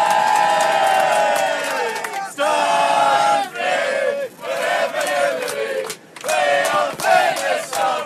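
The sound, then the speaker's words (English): A packed group of football fans on a bus bound for Parkhead chants and sings together in loud, rhythmic unison, their massed voices rising and falling in repeated phrases with brief pauses between lines. “We're on the bus bound for Parkhead. Everyone here's in full voice.”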